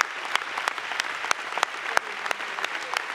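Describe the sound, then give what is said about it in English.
A church audience claps steadily during worship, a dense wash of many hands with sharper individual claps popping out at irregular intervals. It is fairly loud and continuous throughout. “Yeah, I know you've already heard and know that we do a lot of standing and clapping, but I mean, how can you, when you realize that he's living in you, can you just, oh, that's great.”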